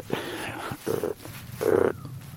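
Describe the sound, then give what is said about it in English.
A man imitates a deep deer grunt three times: a longer rough grunt, then two short, low, throaty bursts, the last the loudest, with no talking. “Like that, real deep grunt.”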